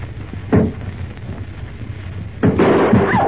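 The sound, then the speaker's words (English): Two sharp, loud gunshots about two seconds apart, fired point blank through a door over a low rumbling background; the second blast trails into a burst of rough, clattering noise. “I fired point blank at that door.”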